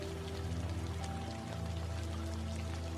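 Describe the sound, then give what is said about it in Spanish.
Steady rain falls continuously, a soft dense patter of drops over a low constant hum, with no voices and an even, unbroken texture throughout. “Voy a pedirte ahora que lleves la atención de tu mente a la lluvia que estás escuchando.”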